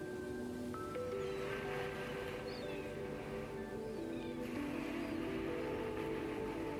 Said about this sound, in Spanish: Y mientras estás ahí, sigue respirando, escuchando lo que el mar te tiene que decir. Conectando con la calma de sus olas.